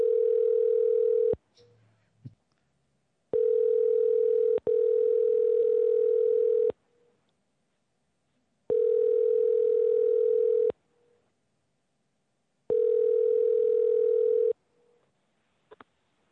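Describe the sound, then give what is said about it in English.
A telephone line tone sounds in loud, steady bursts of about two seconds, separated by pauses of similar length and repeating several times, with no one speaking, as a call is placed to columnist Sherwood for the New American Dream Radio Show. “And Chuck will be getting Sherwood on the phone right about now.”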